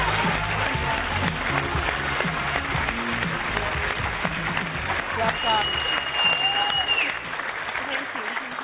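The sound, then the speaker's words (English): Sustained applause from a large audience after the announcement that Charlotte Desjardins won the 2014 BT Sport Action Women of the Year Award. A dense, steady clatter of clapping stays loud throughout, with faint voices and a few cheers mixed underneath. “We got a lot of applause here.”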